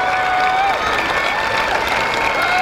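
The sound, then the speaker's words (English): A crowd claps and cheers in a steady, dense roar that holds at the same loud level throughout, with a few sustained musical tones running faintly underneath. “Crowd's into it.”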